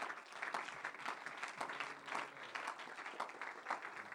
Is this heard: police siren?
no